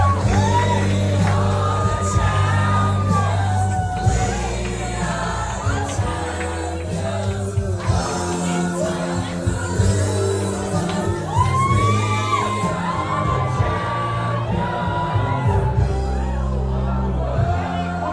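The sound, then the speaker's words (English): A group cheers and whoops amid group hugging and photos as staff meet their new sabbatical team, with overlapping shouts and excited voices forming a loud, steady wall of crowd noise that lasts the whole time without a break. “Group hugging, there's cheering, photos galore, and obviously tears.”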